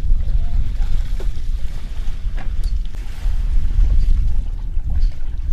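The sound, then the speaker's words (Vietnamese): A steady, heavy low rumble of the engines of large cargo boats arriving at a fish collection site on a river in the Mekong Delta, Vietnam, constant throughout, with faint splashes and occasional light knocks in the background. “Nhiều chiếc ghe trục lớn đến bãi tập trung cá cân rồi chở đi khắp nơi trong khu vực đồng bằng sông Cửu Long và cả thành phố Hồ Chí Minh.”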